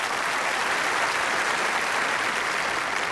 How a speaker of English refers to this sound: You can applaud that. You sure can.